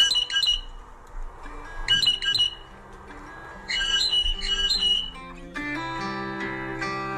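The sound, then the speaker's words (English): Harsh, raspy blue jay (Cyanocitta cristata) alarm calls, given on sensing danger to alert the flock, come in three quick bursts of repeated screeches, loud, and then give way to a steady tonal hum toward the end. “Blue jays emit these calls when they sense danger and when they want to alert other members of their flock of a potential threat.”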